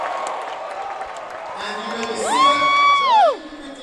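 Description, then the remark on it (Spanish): An audience shouts and cheers with joy to the Lord during a church service, a dense crowd roar building steadily, topped by one loud, sustained high whoop that rises, holds, then drops off near the end. “Dale un grito de júbilo al Señor.”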